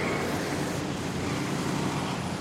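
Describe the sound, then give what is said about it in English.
A steady, dense rumble of trucks and heavy cranes dumping debris from Ground Zero, the World Trade Center site, onto barges headed for a landfill on Staten Island, a 24/7 operation; loud and continuous, with no voices and no distinct crashes standing out. “Her apartment is just a few hundred feet from where trucks and cranes dump the debris from Ground Zero onto barges headed for a landfill on Staten Island.”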